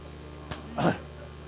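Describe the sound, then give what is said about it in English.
A single sneeze: a sharp, quick catch of breath followed by a short, forceful burst, standing out clearly over a low, steady background hum. “Bless you, brother.”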